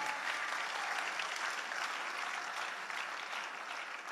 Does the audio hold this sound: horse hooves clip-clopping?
no